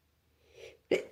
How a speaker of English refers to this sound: My bad. Sorry, I just sneezed.